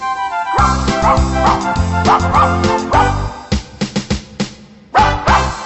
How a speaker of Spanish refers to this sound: Lo llevo a pasear al parque, ceñido por su collar. La gente pasa y Anghetto con furia empieza a ladrar.